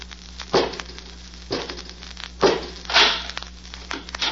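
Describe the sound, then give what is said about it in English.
A mechanical door in The Avenger grinds open on the command "Robot 2, open the door" in a series of four rough, crunching bursts, the last one longer and hissier, over a steady low electrical hum with no voices. “Robot 2, open the door.”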